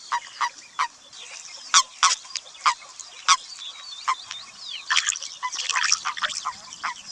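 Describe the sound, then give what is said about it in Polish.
Common toad mating calls at a body of water where the toads gather to pair and spawn: a rapid, irregular series of short, bright croaks and chirps, some overlapping into a busier chorus toward the end, with no voices. “Mieliśmy okazję usłyszeć właśnie głos godowy ropuchy szarej.”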